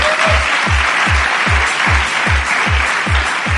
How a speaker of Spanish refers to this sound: ¿Podéis aplaudir? Sí, sí, se admite.